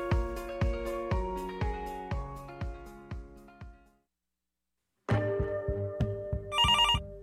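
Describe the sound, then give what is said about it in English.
A telephone rings in a steady run of bright, repeated tones, pauses for about a second of silence, then starts ringing again, loud with no voices. “Pick up the phone, Lower Mainland.”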